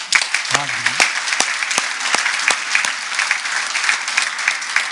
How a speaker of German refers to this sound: für die Zuschauer klatschen heute Morgen.